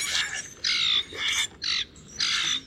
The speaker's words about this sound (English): I always find myself defending the blackbirds. You know, the ones at your feeders that are a little bigger and louder than the sparrows. The ones that some people prefer to shoo away, like the common grackle.